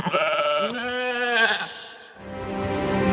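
animal, sheep bleating

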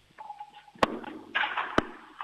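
household object, doorbell ringing

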